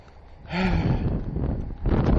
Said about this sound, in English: God damn, this fucking weather. Wind. It's not bad weather, it's windy. It's warm, I guess.